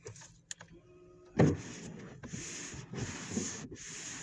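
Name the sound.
car engine idling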